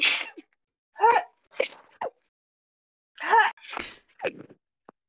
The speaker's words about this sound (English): Bless you.